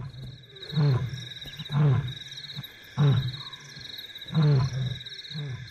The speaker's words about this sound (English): A lion calls.